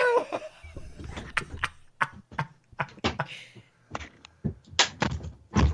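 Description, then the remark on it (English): A window being opened to let a cat named Shelley in from outside: a run of sharp clunks, knocks and rattling handling noises spread irregularly over several seconds, with a faint low rumble underneath. “Imagine you open the window and...”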